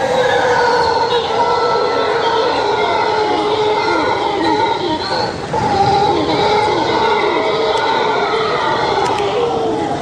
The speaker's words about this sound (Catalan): Us presento el mono ullador, és com li diuen allà en castellà. En català deu ser alguna cosa així com un mico odolador, potser. Mico odolador.